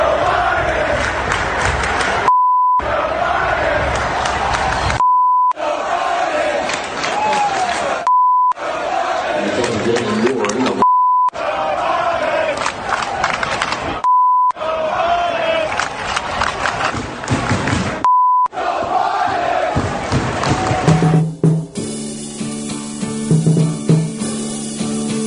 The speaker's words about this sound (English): I can hear the chants from the crowd. Let's go, Brandon.